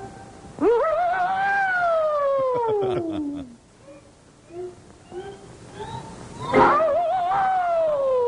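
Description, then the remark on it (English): A cartoonish air raid siren wail from the cartoon Tokyo Jokyo, made by characters kicking each other to produce the scream: it sweeps up sharply, then slides slowly down in pitch, with a second loud wail rising near the end. It has a scream-like, voiced quality, and soft chirps fill the gap. “We are now privileged to witnessing demonstration of Japan's finest air raid siren.”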